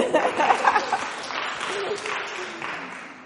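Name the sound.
audience clapping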